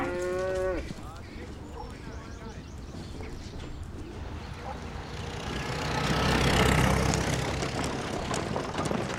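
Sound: cows mooing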